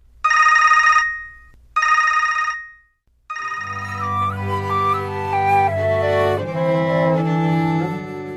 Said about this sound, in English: A researcher demonstrates with a headband containing 4 electrodes. He can call a phone number simply by looking at numbers on the screen, one at a time. His brain signals are then sent to the cell phone for an automatic dial.